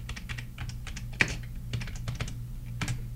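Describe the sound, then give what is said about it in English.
Quick clicking keystrokes on a computer keyboard as someone types in "soccer ball", irregular taps with one sharper press standing out, over a steady low hum and no talking. “Okay, I'm going to try typing in soccer ball.”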